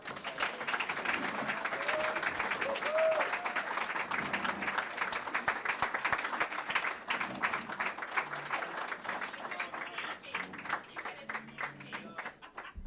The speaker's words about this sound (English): Standing ovation.